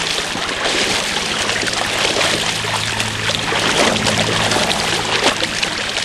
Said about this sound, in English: Of your feet sloshing through streams and rice paddies.